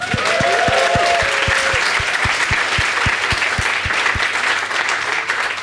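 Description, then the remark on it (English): A live audience bursts into sustained applause, a dense wash of clapping with a steady rhythmic thump underneath and a brief whistle early on, loud throughout. “I love that you guys applauded for that, because that was one of the easiest.”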